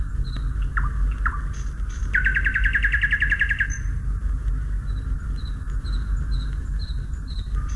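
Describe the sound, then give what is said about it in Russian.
A nightingale sings outdoors, opening with a couple of sharp notes before a rapid, rattling trill, then short whistled phrases, over a steady low rumble with faint insect-like chirps in the background. “Начало строфы можно узнать по паузе и по характерному колену, которым соловей обычно начинает каждую очередную строфу.”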